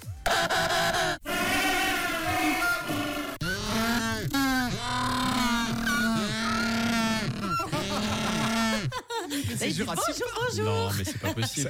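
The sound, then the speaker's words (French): A penguin colony calls loudly, with many overlapping harsh, braying honks. The chorus runs continuously with no gaps, one bird's call rising over another's. “C'est confirmé. C'est une colonie de manchots.”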